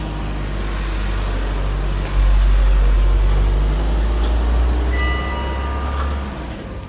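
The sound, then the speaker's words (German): A car passes by with a heavy low rumble that swells in the middle and eases slightly toward the end, with no one talking over it. “Jetzt kommt gerade ein Auto.”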